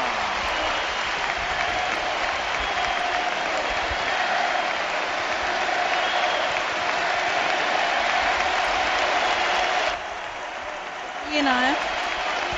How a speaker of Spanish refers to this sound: Emocionante, nosotros nos callamos y el pueblo rugiendo para aplaudir a Andrés Iniesta.